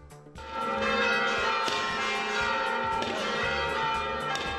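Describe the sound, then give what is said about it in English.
Christmas church bells peal loudly and continuously at the Vatican, several overlapping strikes ringing out with a rich, sustained resonance, with no voices. “Christmas bells rang at the Vatican last night.”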